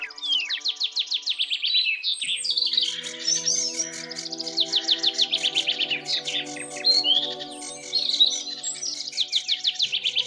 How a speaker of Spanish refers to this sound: Apenas disipadas las sombras de la noche, se dejó oír entre el ramaje el bullicio de los pajaritos al despertar en sus nidos y la inquieta charla de los que en ligero vuelo se ubicaban a la espera de las deliberaciones.